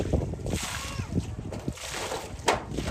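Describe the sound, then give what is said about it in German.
Water being scooped by a man with his one remaining arm from a flooded puddle right in front of his refugee tent after a night of heavy rain, with repeated splashes and sloshing at an uneven rhythm while a voice speaks over it. “schöpft mit dem Arm, der ihm noch verblieben ist, Wasser aus dem kleinen See unmittelbar vor seinem Zelt.”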